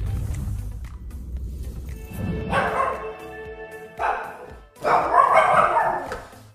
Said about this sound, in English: Grover, who are you barking at?